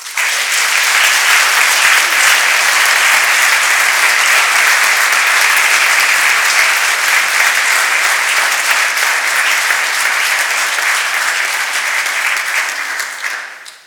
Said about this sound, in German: Und ich sage euch als Pfarrer, ganz herzlichen Dank all denen, die jetzt aus dem Amt scheiden. Gott lohne es euch. Gebt ihnen mal einen Applaus.